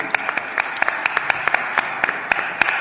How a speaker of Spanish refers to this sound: lo aplaudimos como es natural.